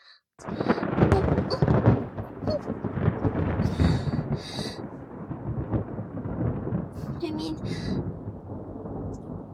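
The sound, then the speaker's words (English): A loud roll of thunder breaks in suddenly and keeps rumbling heavily for several seconds, deep, slowly easing but never fully fading. “Is it any wonder that there's so many thunder gods?”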